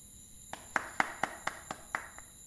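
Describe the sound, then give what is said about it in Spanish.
Someone outside claps their hands about eight times in a steady, unhurried rhythm to call at the door of a farm house at nightfall, around 9 pm on Friday, 1 March 2002; each clap sharp and distinct, with no voices. “Los Merenda Sánchez se acomodaban para cenar y en esos instantes escucharon que alguien llamaba afuera, golpeando las palmas.”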